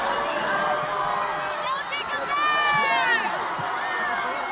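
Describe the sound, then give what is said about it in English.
A large crowd at the Rolling Out Festival in LA erupts in loud, sustained cheering and screaming, many excited voices overlapping into a dense roar that swells and holds for several seconds. “You can hear the crowd react.”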